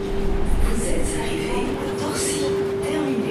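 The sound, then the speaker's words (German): A suburban commuter train rumbles steadily, with a sustained electric whine and bursts of hissing brakes and rail noise as it pulls into the station at Torcy, a lakeside suburb east of Paris. “45 Minuten braucht man mit der S-Bahn vom Stadtzentrum bis hierher.”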